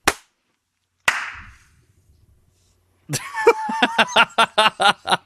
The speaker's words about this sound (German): Das war eine halbe Stunde, das Klatschen war eine halbe Stunde später irgendwie. Das hat auch gerade absolut gehangen.